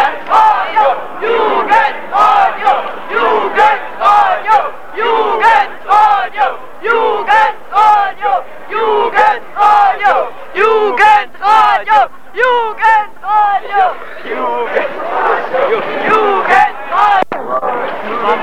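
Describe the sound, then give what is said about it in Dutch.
A crowd of boys aged about 12 to 14 shouting together in loud, energetic bursts, their voices high and overlapping in a rough, chant-like rhythm that keeps going throughout. “Wat je net hoorde, dat waren jongetjes van 12, 14 jaar misschien.”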